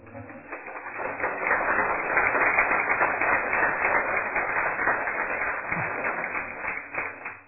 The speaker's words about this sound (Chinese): 好，那我们就再一次鼓掌，谢谢法师，那也谢谢大家。